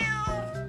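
A single loud cat meow with a bright drawn-out tone that wavers slightly before fading. No voices are heard.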